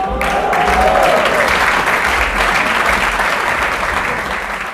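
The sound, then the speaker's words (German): Loud, sustained applause from a large audience, dense steady clapping filling the whole stretch, with a few brief whistle-like tones near the start and faint crowd voices mixed in. “Die letzte berühmte Persönlichkeit wurde von Jan Röck unter tosendem Applaus angekündigt”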